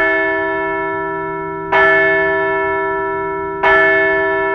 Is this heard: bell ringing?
yes